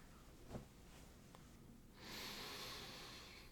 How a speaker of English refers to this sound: It smells really good, too. Is that weird? What can I say? You got good pheromones. Let me take it out so I can get a better sniff.